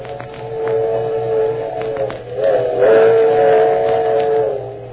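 A steam train's whistle wails steadily and loudly, dipping and rising in pitch partway through, over the continuous rumble and clatter of the running train. No one speaks.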